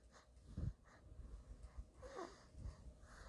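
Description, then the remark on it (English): Heavy breathing from a small pet animal, with a couple of low snorting bursts and a brief wheezy whine, with no talking. “No, he's breathing heavy.”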